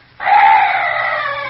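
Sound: night bird call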